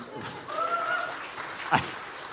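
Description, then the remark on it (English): A brief round of audience applause: a steady, even wash of clapping lasting a couple of seconds, with one sharper clap standing out near the end and no talking. “I don't think that particularly deserves a round of applause, but okay.”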